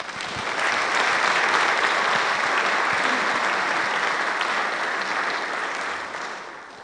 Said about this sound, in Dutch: Ik zou jullie willen vragen, als jullie het gewaardeerd hebben, geef ze nog een keer een applaus.